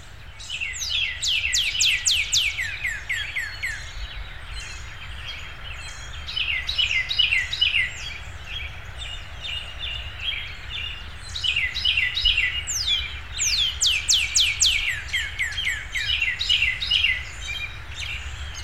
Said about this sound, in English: In the following recording, a redbird swaps off singing with a Carolina wren and other birds in my yard.